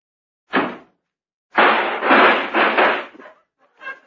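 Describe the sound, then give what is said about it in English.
A taxi door is slammed shut with a sharp thud, then a second heavier bang trails into about two seconds of loud rattling and clattering before a faint final knock. No one speaks. “I guess I should have warned you about that, sir, when you slammed the door.”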